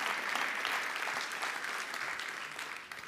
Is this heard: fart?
no